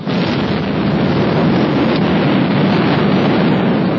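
A massive rock-blasting explosion in the Pulisangin gorge on 3 November 1966, at the construction of the Nurek hydroelectric plant to dam the Vakhsh river, with 642 tonnes of explosives lifting about 1,000,000 cubic metres of hard rock, roars loud, a dense, continuous rumble that fills the whole stretch without fading, with no voices present.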